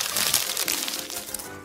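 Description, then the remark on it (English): A page of a written story is crumpled up to be thrown in the trash, a dense burst of crackling, crinkling rustles lasting under two seconds with no voices. “So he did what all defeated writers do, crumpled it up and threw it in the trash.”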